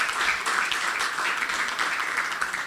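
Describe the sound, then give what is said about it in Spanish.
Steady applause from an audience at a club meeting, acknowledging the British ambassador on his name day, a dense, continuous patter of many hands clapping at even loudness throughout, with no voices standing out above it. “Antes de darle la palabra, le voy a pedir, en primer lugar, reconocer la presencia del embajador de Su Majestad Británica, que hoy es su onomástico y estaremos acompañándolo hoy de tarde en la embajada, así que pido un aplauso por ello.”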